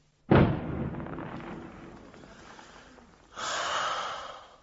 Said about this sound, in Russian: Вечером, когда на Приморском бульваре около павильона играет егерский духовой оркестр, и по зеленоватой воде разносятся звуки какого-то старинного вальса и звуки выстрелов с бастионов, которые странно вторят им.